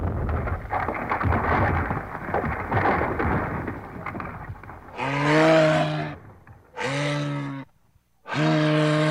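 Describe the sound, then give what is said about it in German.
Large chunks of ice break away from a retreating glacier's ice wall, melting as the climate warms, with a deep, rumbling crash that rolls on for several seconds, followed by three loud, drawn-out animal bellows. “Doch die Eiswände der Gletscher ziehen sich immer mehr zurück und große Eisstücke brechen von den Eisbergen ab.”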